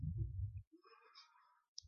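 A handheld presentation remote clicks softly, a couple of short, sharp clicks separated by quiet pauses, preceded by a low muffled rumble, with no one speaking.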